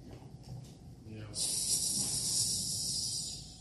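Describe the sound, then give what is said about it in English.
After a brief low murmur of voice, a person imitates a snake with a long, steady, sharp hiss that holds for about two seconds before tapering off. “They hiss of the serpent.”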